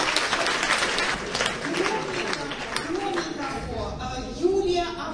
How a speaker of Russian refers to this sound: Аплодисменты вам.